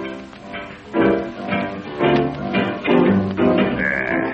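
Playful pig-themed novelty music with nasal, bleating tones pulsing in a steady bouncy rhythm, loud and unaccompanied by talk, with a higher sustained note entering near the end.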